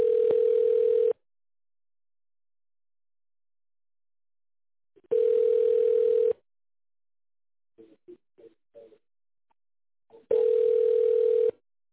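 telephone ringback tone

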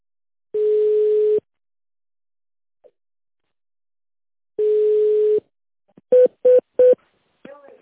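telephone ringback tone

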